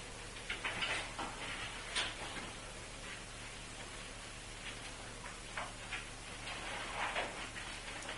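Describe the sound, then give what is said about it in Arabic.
Steady rain patters down in a soft, continuous hiss, with scattered drops ticking irregularly against a surface. It sounds fairly quiet, with no voices. “اسمع مطر طايح.”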